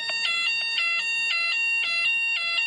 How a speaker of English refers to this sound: There's a fire alarm again. Hang on.